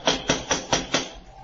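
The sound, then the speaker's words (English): Five sharp, evenly spaced knocks on a door in quick, steady succession, fairly loud and hard, followed by a brief quiet with no voices. “Go ahead and knock.”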